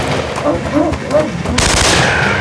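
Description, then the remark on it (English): Loud, rapid bursts of AK-47 gunfire crack in a dense, harsh stream, with the barrage growing heavier toward the end and a voice faintly audible beneath. “The sentry raised his AK-47 at Bill, still running.”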